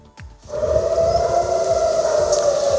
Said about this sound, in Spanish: Estas son las sirenas que han sonado hace unos minutos en Tel Aviv. Ha habido un bombardeo de Irán contra Tel Aviv y contra Jerusalén.